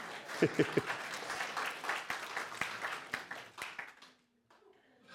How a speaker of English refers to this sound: You can clap.